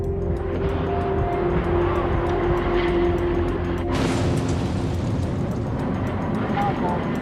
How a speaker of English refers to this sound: We have an explosion outside this building. Melbourne now resembled a war zone. It was 1 o'clock and the first of a series of car bomb blasts were rocking the centre of Melbourne.